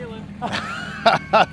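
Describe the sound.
A car engine idles with a steady low hum throughout, while voices speak briefly over it in short bursts.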